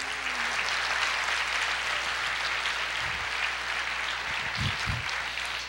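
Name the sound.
audience applauding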